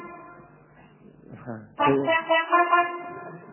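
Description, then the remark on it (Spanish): A loud airplane horn honks abruptly after a brief murmur of background voices, its brassy, sustained blare holding for a couple of seconds before trailing off. “La bocina. Justo, la bocina de avión, la famosa.”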